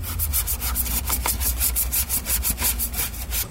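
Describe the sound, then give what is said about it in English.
A small brush, with cleaner sprayed directly into it, scrubs rapidly back and forth inside a car dashboard air vent, making a steady series of raspy, bristly strokes about five per second, with a low hum underneath and no talking. “So what I do is I take the little one, spray directly into it, and then just kind of work it back and forth in the vent.”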